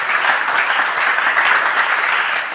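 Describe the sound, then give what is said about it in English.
An audience, asked to clap their hands, claps steadily and loudly, a dense wash of many hands applauding at once that holds without pause for a few seconds. “Ladies and gentlemen, clap your hands. You can clap.”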